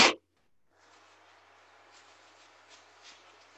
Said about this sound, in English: I have to blow my nose. My allergies are kicking in.